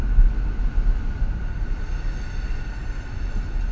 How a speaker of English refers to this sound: No, no, it's a train. Train. I like trains.